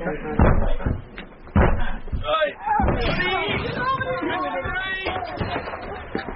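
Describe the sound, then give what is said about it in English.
Two heavy, booming thuds strike a door in quick succession as men force it open, followed by a jumble of raised, overlapping voices. “Break down the door.”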